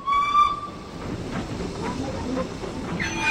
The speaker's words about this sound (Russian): И вдруг к тротуару, где стоял Джонни, с ужасным ревом и грохотом подкатил другой состав.